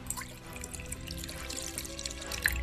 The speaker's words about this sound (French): Pour réaliser cette expérience, tout d'abord, tu dois verser le jus de citron dans la coupelle.